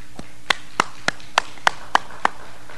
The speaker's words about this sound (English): I'm glad you clapped for that, because that is what our EPN is going to be doing next about global warming.